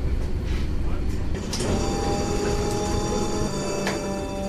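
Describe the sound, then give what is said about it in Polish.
A new air-conditioned tram brakes hard in an emergency-braking demonstration at about 30 km/h on a hot day: heavy rumbling gives way partway through to a sustained metallic wheel screech that holds to the end, with faint voices in the background. “Jako pewną atrakcję tej przejażdżki zaprezentujemy Państwu awaryjne hamowanie.”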